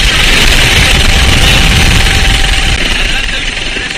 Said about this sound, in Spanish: Pronto llegó a la zona el helicóptero Pesca 1 del Servicio de Guardacostas de Galicia y este era el sonido del momento del rescate.